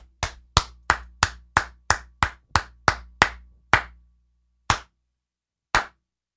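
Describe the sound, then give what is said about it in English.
One person claps hands for the officials of a Raiders–Cowboys game about a dozen times in a brisk, steady rhythm, then slows to a few sharp, widely spaced claps before stopping. No one speaks. “I'm clapping for the stars of the game.”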